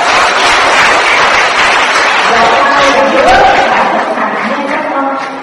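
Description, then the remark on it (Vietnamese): A large audience applauds themselves at the speaker's request during a talk, dense and loud clapping sustained steadily for several seconds, with a few voices mixed into the crowd noise before it begins to taper off at the end. “Và nếu các con phát hiện như vậy thì hãy tặng mình một tràng pháo tay.”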